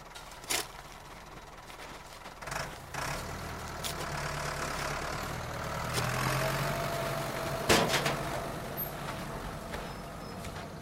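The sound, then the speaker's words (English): A heavy gun truck engine idles with a steady low rumble, broken by a few sharp hissing bursts like air brakes releasing. No voices, just the continuous mechanical drone. “Hey, we need to get going. The gun truck's waiting for us.”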